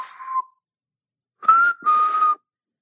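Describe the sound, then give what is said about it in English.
A person whistles a signal call: a short tone, a pause, then two longer, breathy notes in quick succession, with no talking around it. “He had a special whistle for me when we were in like a department store, like a, I don't know, like a Marshall's or TJ Maxx or something.”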